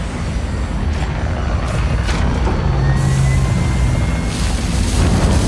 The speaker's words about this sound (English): The Razor Crest swoops over the lush forests and marshlands of Sorgan, then finds a clearing to make a landing in.